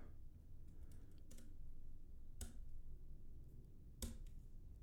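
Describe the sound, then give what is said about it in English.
A handful of sharp computer keyboard key presses, spaced irregularly rather than in steady typing, sound over a low, constant background rumble while someone cues the next playlist setup. No one speaks. “Listen to me hit keys.”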